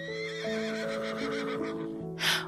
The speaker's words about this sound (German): Und dann hörst du plötzlich ein Wiehern.